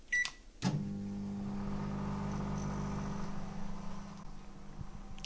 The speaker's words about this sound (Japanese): では加熱していきます。電子レンジに入れました。1分30秒加熱します。スタートします。